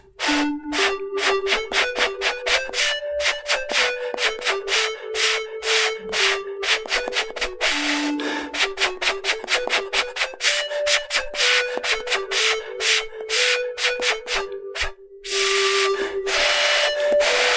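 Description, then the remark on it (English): A breathy, flute-like melody from the Ocarina app on an iPhone, played by blowing into the phone, sounds alone, its steady mid-pitched notes stepping up and down in a simple tune over a constant airy hiss. “You know, kind of using our bodies to, like, create physical instruments with technology. Here's a little ditty.”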